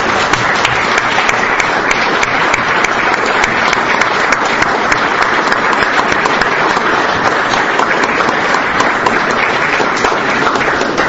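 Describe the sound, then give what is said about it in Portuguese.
Steady applause from a crowd of many people at an awards ceremony, a dense, continuous wash of clapping that stays loud and even for the whole stretch without fading or breaking. “dê uma salva de palmas.”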